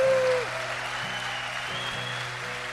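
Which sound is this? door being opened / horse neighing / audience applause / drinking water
audience applause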